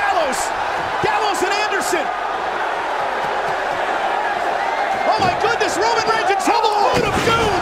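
A large wrestling arena crowd roars loudly and continuously as Gallows and Anderson sneak in, with shouts and whoops rising over the din and a few sharp slams punctuating the noise.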